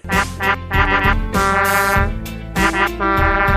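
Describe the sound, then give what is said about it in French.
A loud, brassy novelty car horn honks in a rapid series of quacking, duck-like blasts, rich in buzzy harmonics, with short pauses between bursts and no talking. “Hey, imaginez-vous donc que je me suis trouvé un nouveau klaxon, un nouveau sideline, ce qui fait que ça vient avec un nouveau klaxon.”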